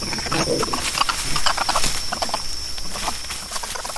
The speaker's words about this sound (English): Throughout their days, spider monkeys make a range of vocalizations, from barks to whinnies and much in between. They're especially noisy when they play.